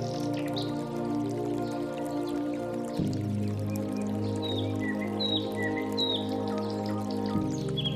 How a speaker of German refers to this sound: Die Schwarze Erns, ein Fluss, hat hier drei Kanäle in den Stein geschürft und somit den höchsten Wasserfall des Landes geschaffen.